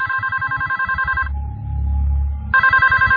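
A telephone in a room rings again in two rapid trilling bursts separated by a short pause, with a low hum in between; clear, no voices.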